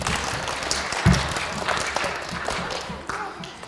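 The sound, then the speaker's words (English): A crowd applauds steadily, a dense wash of many hands clapping at once, holding fairly even in loudness for a few seconds with a brief low thump near the start. “Let's give Caitlin a round of applause.”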